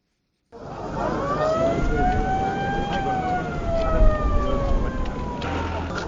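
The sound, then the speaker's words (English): An ambulance siren wails in a slow rising and falling sweep, steady, over a dense rumble of outdoor crowd and traffic noise, as two ambulances carrying 13 former hostages arrive at Ngawi, a Cameroonian town on the border with the Central African Republic, watched by family, friends and onlookers. “Family members, friends, and curious onlookers watch as two ambulances with 13 former hostages arrive at Ngawi, a town on Cameroon's border with the Central African Republic.”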